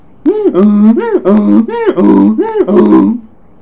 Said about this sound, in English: Animals speak. A donkey brays.